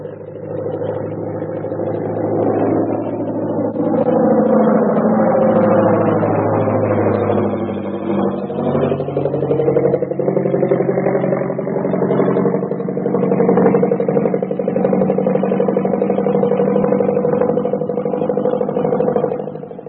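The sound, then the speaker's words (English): A loud, steady aircraft engine drone runs throughout, its harmonic tones sliding up and down in pitch as a passenger plane arrives at an airport, with a rough, rumbling texture and no voices. “Here comes the plane.”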